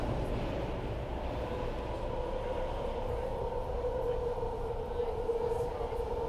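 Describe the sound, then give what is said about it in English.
An electric BART subway train headed toward Richmond through Berkeley runs steadily, heard from inside the crowded car: a constant loud rumble of wheels on track with a sustained motor whine layered over it throughout. “This is the subway version. This is not Amtrak. These trains are electric. As you can probably hear.”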